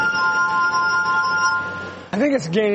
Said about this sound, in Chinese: 以演奏玻璃琴为生，甚至还和美国顶尖乐团合作过。不过会演奏玻璃琴的人太少了